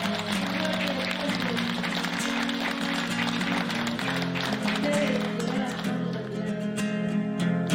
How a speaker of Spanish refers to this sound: No, pues el aplauso es para ustedes. Yo quiero que se den un fuerte aplauso, cheranices. ¡Fuerte para ustedes, por favor!